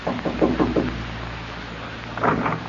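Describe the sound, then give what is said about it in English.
A quick series of four or five firm knocks by a woman on the wooden door of cabin 3A, then a pause and another short knock, over a low steady hum, with no talking. “you were smiling as you knocked on the door of Ralph Barton's cabin”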